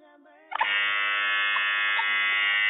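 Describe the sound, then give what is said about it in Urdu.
A loud, sustained electronic buzzer on a Quran quiz show, pressed by a contestant to answer a question. It blares with a harsh, harmonic-rich drone, starting abruptly after a brief quiet murmur and holding steady for a couple of seconds. “buzzer بجانے میں کامیاب ہوئے”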